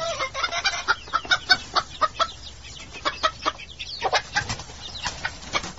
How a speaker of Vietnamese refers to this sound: Từ phía đám điên điển vang lại mấy tiếng gà kêu oan oát.